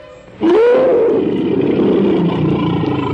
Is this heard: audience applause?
no